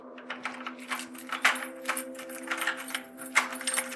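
A bunch of keys jangles and clinks continuously for a few seconds, with sharp metallic rattles over a steady low humming tone in the background.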